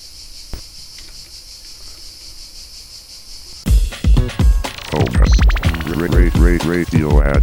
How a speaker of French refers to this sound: Mais moi, je te propose qu'on laisse quelques secondes de cigale pour tous ceux qui ont la pluie aujourd'hui.